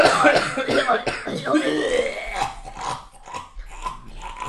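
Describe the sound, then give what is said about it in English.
A person imitates a raspy, dying cough, a run of harsh, rattling hacks and throaty gurgles, fading into weaker, wheezy sputters. “Well, circulating the house, some of them dead coughs going on. I love a good dying cough.”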